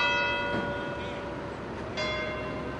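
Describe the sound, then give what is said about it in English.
Church bells ring together in Vatican City in the morning, marking the start of a week of ritual ending with the funeral of Pope John Paul II, in a dense, resonant peal, with fresh strikes landing over long, overlapping humming tones and a faint outdoor wash beneath. “Bells rang out this morning in Vatican City, the start of a week of ritual”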